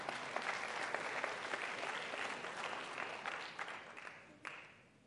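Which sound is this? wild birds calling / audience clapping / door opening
audience clapping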